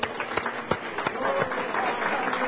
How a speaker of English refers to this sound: Hallelujah. Let's praise him with a clap offering.